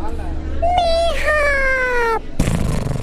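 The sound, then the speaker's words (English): A child's voice lets out one drawn-out, high-pitched, wavering growl in imitation of a lion's roar during a class roll call before a field trip to the zoo, lasting over a second before breaking off into rustling noise. “Your lion sound.”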